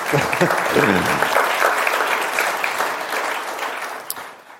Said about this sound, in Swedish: Bra, applåder. Bra, tack.